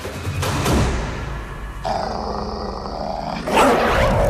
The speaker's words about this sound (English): His mighty growl rips the tar from the road and sends a whirlwind of debris into Calico's men